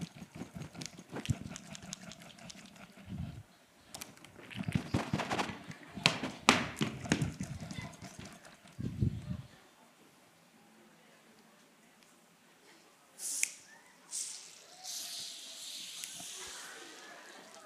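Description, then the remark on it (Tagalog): Fizzy Coke bursts from a shaken bottle in a sharp hissing spray, after a stretch of rattling and thumping noises as the bottle is shaken. The sputtering spray lingers for several seconds. “Pareho naman tayo inuga ah. Ba't yung sa'yo sumabog? Yung akin hindi.”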